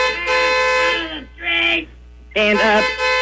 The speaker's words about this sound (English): Yes, we have hit 300 million, and everybody is celebrating now. As you can hear, the horns honking.